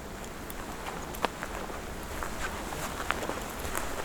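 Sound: mixed fir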